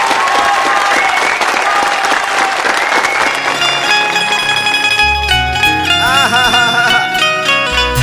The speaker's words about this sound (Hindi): रउआ सभे अगर अंकुश के बोलौले बानी त ताली के प्यार दुलार मिले के चाही, एगो जोरदार ताली बजा दी।